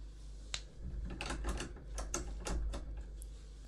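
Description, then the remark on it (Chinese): A key scrapes and clicks in a lock, followed by a quick series of sharp latch clicks and rattles as a closed office door is unlocked and opened, with no talking. “办公室关门了，没关系，还好我有钥匙。”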